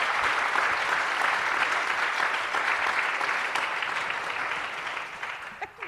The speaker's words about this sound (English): Let's give our brave people a round of applause.